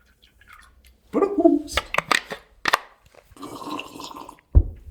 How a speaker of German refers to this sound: Hier, soll ich auch noch was einschenken? Ja, komm, zur Feier des Tages ein leckeres Wasser.